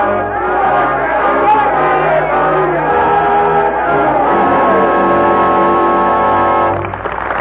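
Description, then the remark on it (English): A loud, dense mass of many voices of a revolutionary crowd in Paris chanting and screaming together, sustained without a break for several seconds, with a blaring horn-like tone swelling underneath. “Up from the cellars of Paris, up from the bare fields of a starving peasantry, the crowd was coming, chanting its hate, screaming for blood.”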